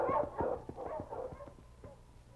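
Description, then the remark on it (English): A team of sled dogs, huskies led by King, bark and yip excitedly as the team sets off, in a quick, overlapping burst, fairly loud, with a few higher whining yelps mixed in as the barking gradually fades a little. “All right, King. Up front, boy. On, King! On, Huskies!”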